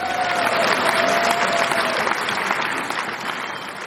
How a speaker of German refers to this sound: Ja, jetzt dürfen sie klatschen, wenn sie wollen, nicht?